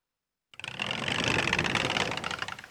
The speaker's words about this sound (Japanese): 雨。 え？雨だよ。 あ、ほんとだ。